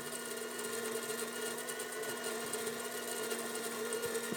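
A coffee machine grinds large coffee beans, its motor whirring steadily with a constant buzzing hum and gritty rattle throughout, without pauses and with no voices.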